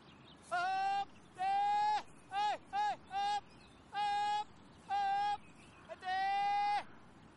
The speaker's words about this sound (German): Ich treibe die Kühe nur mit der Stimme aufs Feld. Ich nehme nie einen Stock. Manchmal schimpfe ich mit ihnen, manchmal rufe ich sie, manchmal singe ich ihnen etwas vor. Aber ich schlage sie nie.